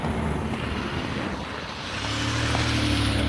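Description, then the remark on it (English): A car engine rumbles steadily, its low drone shifting to a slightly different pitch partway through and growing a bit louder toward the end, with no voices. “Yeah, it's a very nice car.”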